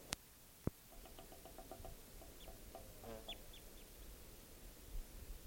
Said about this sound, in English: Bird. Stop. Well, that just collected that bird, and he'll be number 631.